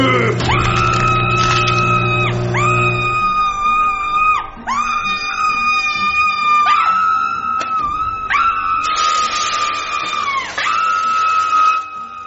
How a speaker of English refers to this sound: what's all that screaming about?